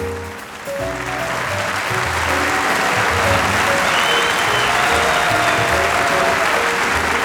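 Sustained audience applause, a dense steady wash of clapping that swells quickly and stays loud throughout, with faint musical tones sounding underneath.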